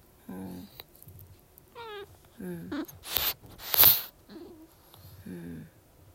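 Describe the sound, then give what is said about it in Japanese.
A cat sneezes twice in quick succession, sharp hissy bursts, surrounded by soft, short chirping vocal sounds before and after. “ちょっとね、なんかアレルギーなのか風邪なのかね、くしゃみしてるんですよこの人。”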